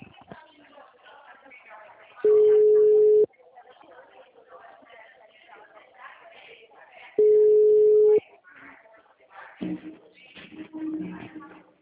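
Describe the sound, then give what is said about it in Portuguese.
A telephone ringback tone sounds twice as a call is placed, each a steady one-second beep about five seconds apart, loud, with indistinct voices murmuring in the background throughout. “Sto chiamando.”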